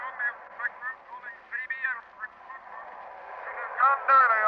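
Thin, band-limited radio hiss with warbling, garbled fragments of faint ghost voices drifting in and out, strange patterns of static coming in from the Western Ocean, swelling louder near the end.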